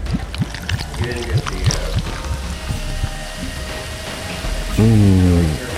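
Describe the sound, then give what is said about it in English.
Brownish Mole Cola soda pours steadily from a bottle into a glass, a continuous splashing hiss with a brief fizzy trickle. Faint voice-like murmurs and a short humming tone show up toward the end. “But first, I'll pour this delicious brownish liquid.”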